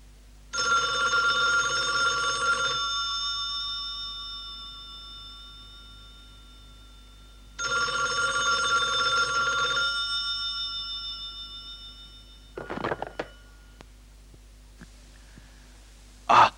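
A telephone at a university rings twice in long electronic bursts, a harmonic trill lasting a couple of seconds each with pauses between, followed by the clatter of a handset being picked up as a teacher calls the university.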